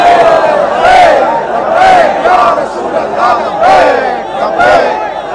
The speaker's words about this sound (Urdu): یہ تبدیلی ہے کہ ان کی بولیاں نہیں لگ رہی، ان کو خریدنے کے لیے کوئی نہیں آ رہا، بلکہ یہ کنٹینر پر بیٹھ کر اپنے نبی کے نعرے ایسے سے بلند کر رہے ہیں.